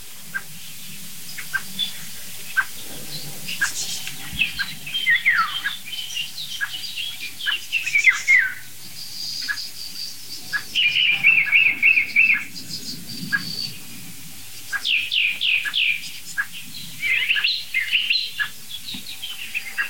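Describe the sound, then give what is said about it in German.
Soft, short 'duck' calls of a common blackbird that has just flown in repeat steadily, mixed with busier chirping and trilling from other songbirds, with no voices present. “Da kommt gerade eine Amsel angeflogen. Das weiche Duck ist von der Amsel.”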